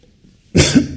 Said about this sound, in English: Sorry. Didn't want to cough into the mic.